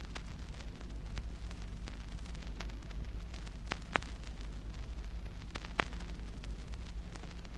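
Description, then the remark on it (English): A steady, deep rolling rumble of thunder from a mountain storm, with no rain or wind yet, fills the whole stretch, overlaid with a hiss of noise and a few sharp crackling snaps. No one speaks. “Thunder's increasing.”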